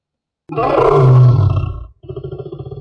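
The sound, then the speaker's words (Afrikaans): A lion lets out a loud, deep roar lasting about a second and a half, then a second rumbling growl begins right after a brief pause. No one speaks. “Julle het gehoor? Ja, 'n leeu verby.”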